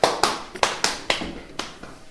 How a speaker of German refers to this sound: Mein Rasen, mein schöner Rasen, wie sieht das denn aus? Ein Maulwurfhaufen neben den anderen. Mein Spaten, wo ist mein Spaten? Das wird sofort wieder platt geklopft.